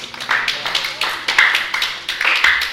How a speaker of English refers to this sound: Very good. Give him a clap. Very good.